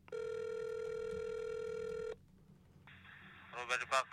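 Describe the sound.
A single steady, buzzy ringback tone sounds for about two seconds through a telephone line during an outgoing call to a gourmet market, then stops, and a thin, phone-filtered voice answers and begins talking.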